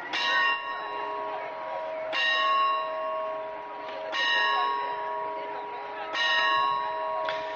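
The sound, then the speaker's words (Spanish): A church bell tolls four times in Huelva at four o'clock in the morning on Good Friday of Holy Week. The strikes come at slow, even intervals, each ringing out with a long, shimmering decay that overlaps the next, over a faint background murmur. “Cuatro campanadas acaban de anunciar a Huelva que es la hora.”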